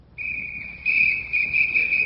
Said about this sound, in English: Well, that sounds like a police whistle. That'd be a police dog.